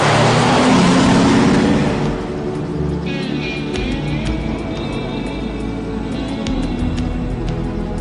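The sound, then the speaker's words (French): In a scene from Ridley Scott's film Thelma & Louise, a car engine roars and accelerates hard, loud, as the car drives off into the void, with a burst of rushing wind-like noise at first, then a steady droning motor carrying on to the end. “S'arrête la voiture dans le vide.”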